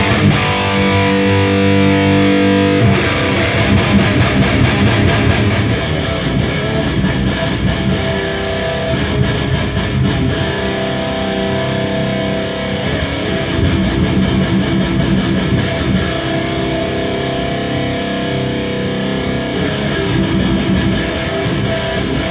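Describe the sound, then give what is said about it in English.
A heavily distorted electric guitar tone through preamp distortion, with bass, middle and treble controls ahead of the distortion and extra bass added on a 5-band EQ, giving a thick, boosted low end; plays continuously and loud, with chugging chords and sustained notes and no talking. “The bass, middle and treble works in before the preamp distortion in this case”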